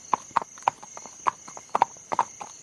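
Horse hooves clip-clop at a steady walking pace as horses pull a britzka cart away, about a dozen crisp hoofbeats in uneven pairs, with a thin high whine running constantly in the background.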